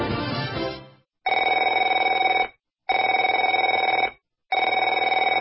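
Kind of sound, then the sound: signal or alarm, telephone ringing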